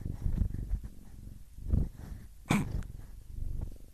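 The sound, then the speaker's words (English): A cat named Potato purrs in a low, steady rumbling rhythm while climbing on a person, with a brief rustling burst partway through; no one speaks. “And I have a cat climbing on me.”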